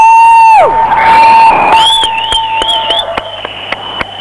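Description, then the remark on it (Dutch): A group of demonstrators standing still amid riot police cheers over scattered clapping while loud toy horns blare, one sliding down in pitch, another wavering shrilly, with sharp claps and taps punctuating the noise. “Klappen en staan stil en maken af en toe een toetergeluid.”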